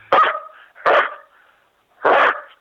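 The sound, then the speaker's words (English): A person imitates a dog barking: three loud, gruff barks, two in quick succession and a third after a short pause, convincingly dog-like, with no other talk. “I'm not good at the howl, but if I could try the bark, is that all right?”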